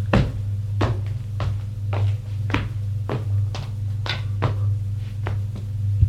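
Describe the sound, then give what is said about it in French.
A framed picture is set back in place on the wall, with a steady series of about a dozen hollow knocks and taps against a low, constant hum. “Puis, il remet le tableau en place.”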